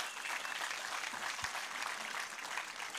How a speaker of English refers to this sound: So let's applaud the Lord for that. Hallelujah.